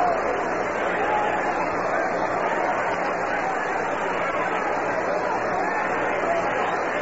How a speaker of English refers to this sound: Crowd just a silent buzz around here. They're a little bit shook up with the Mets on top 5-2.